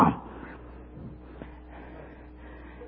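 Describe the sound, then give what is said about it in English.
A man's voice gives one short, loud, gruff bark-like shout imitating an angry dog that suddenly appeared on his back porch early in the morning, then fades into quiet with faint low murmurs. “And all of a sudden there was a dog on my back porch. And he raised a roar!”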